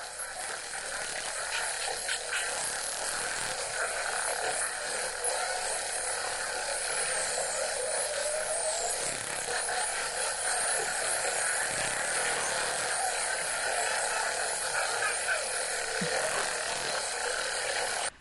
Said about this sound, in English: And now some spinner dolphins.